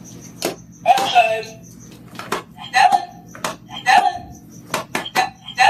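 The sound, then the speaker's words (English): A puppy named Stella insistently steps on recordable talking buttons with words like outside, play or water: sharp clicks in quick, insistent succession, several followed by short recorded voice playbacks, with a faint steady hum underneath. “Here's some sound from the first video she put on Instagram, which shows a very insistent Stella stepping on her buttons.”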